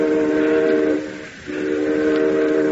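A train whistle blows a loud, steady chord of low tones over a rumbling background, briefly fading for a moment before sounding again at full strength. No one speaks.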